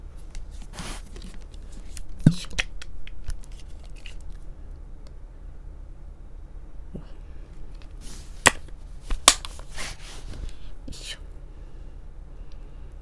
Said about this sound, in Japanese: 今ちょっとローションをバイブに塗りたくっております。ちょっと塗っておかないとさすがに痛いかもしれないので